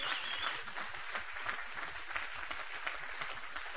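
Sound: audience applauding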